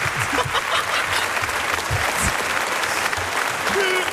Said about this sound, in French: On peut l'applaudir. Bravo. Bravo.